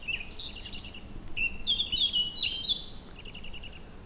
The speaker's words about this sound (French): Et donc là, nous avons eu du Pouillot Véloce, de la Fauvette à tête noire, de la Grive musicienne, de la Citelle Torchepot. Oh, vraiment un grand orchestre.